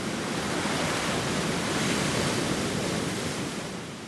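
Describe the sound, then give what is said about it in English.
A continuous, thundering roar of rushing water from Murchison Falls, a waterfall on the Nile, loud and steady with no voices, easing slightly near the end. “No, we're talking a rip-roaring, howling spin cycle.”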